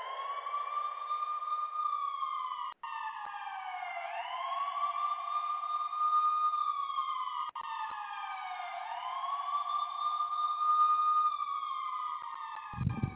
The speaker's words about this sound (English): You know, you got to put the police siren on. I only put the police siren on when I'm looking for people.